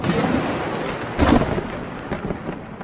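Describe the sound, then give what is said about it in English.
A loud thunderclap from lightning striking St. Peter's bursts out over a steady rumbling roar, with no voices, then slowly rolls away into a lingering low growl. “within hours, lightning hit St. Peter's twice.”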